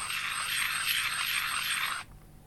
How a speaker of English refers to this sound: Invite participants to make sounds with their stones at key points. Tap slowly for walking. Rub stones together for murmuring crowds.